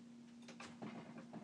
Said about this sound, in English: She's banging against the door. What do you want, Alex? Alex! Kitty, kitty, kitty!